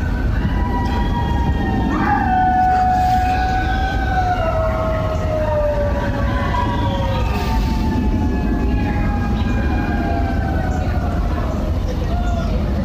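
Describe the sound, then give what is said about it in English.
Neighbors outdoors howl together at 8 p.m. for healthcare workers, in long, overlapping, wavering tones that slowly slide downward in pitch, sustained over a steady low rumble of background noise. “Walk out my front door, and the cult starts howling.”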